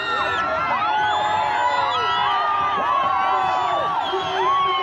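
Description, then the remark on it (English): A large, frenzied crowd at a rally cheers and shouts continuously for a leader waving his arms atop a pickup truck, with many overlapping voices whooping and yelling in a dense, sustained roar that never lets up. “waved his arms wildly, eliciting more adulation from the frenzied crowd.”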